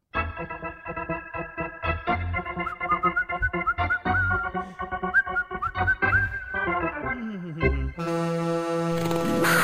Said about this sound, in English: Before we get to headlines, give me a little ice hockey sound,